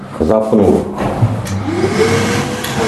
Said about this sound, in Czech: Zapnu vysavač, kompresor. Nevysaje ten písek? Rožne se, ano. A to je prach, jde pryč a písek se vrací, že pořád dokola. Jo, je to křemičitý písek.